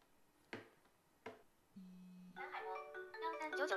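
An incoming call ringtone on a mobile phone: a short low buzz, then a bright electronic melody of sustained notes that grows louder, preceded by two sharp taps. No one speaks.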